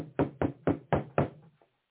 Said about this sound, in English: He stands at the door and knocks.